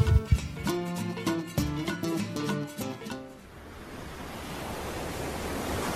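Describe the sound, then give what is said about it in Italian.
A few seconds of bright, rhythmic music cut off into a steady, full rush of ocean waves breaking that continues alone, moderately loud, with no one speaking. “Guarda quelle onde, Johnny. Guardale!”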